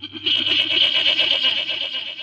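goat bleating

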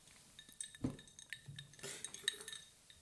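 glasses clinking

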